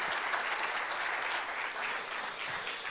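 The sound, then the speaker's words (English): Steady applause from a Beth Page Assembly of God church audience welcoming a young man to speak one morning, a dense, even wash of many hands clapping at once, sustained at a constant level for about three seconds with no voices standing out. “Give him a warm Beth Page, Assembly of God welcome.”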